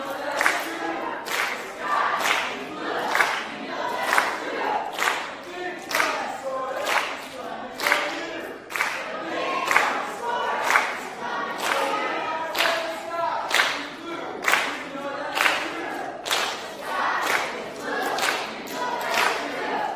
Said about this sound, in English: we've got to get one more quick cheer in for each side